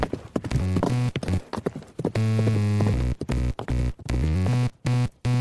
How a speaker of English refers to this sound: Horses.